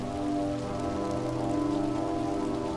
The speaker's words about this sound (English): A heavy rainstorm began rolling through the warm autumn night, erasing all tracks and trails of paths the riders were on, of any tire treads from Jake's own truck, from any blood, from any debris or signs of impact. The incident was washed away.